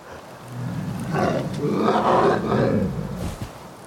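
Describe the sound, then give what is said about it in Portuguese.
A bear's deep, growling roar swells and rumbles for a few seconds, loud, rising to a peak in the middle before trailing off into a rough grunt. “Em seguida, veio o urso. Que horrível! Eu aposto que você está muito bravo. Vamos gritar?”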